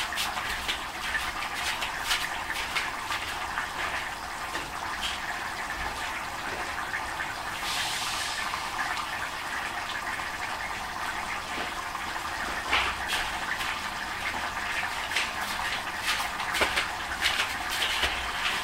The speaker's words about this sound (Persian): خب آب رو اضافه کردم، چند دقیقه میذارم تا این گوشتا یه ذره بپزه.